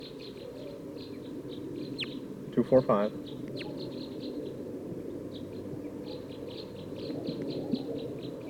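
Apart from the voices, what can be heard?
bird calls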